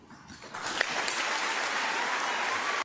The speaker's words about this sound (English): Yeah, people were applauding. Again, at the Catholic school commencement.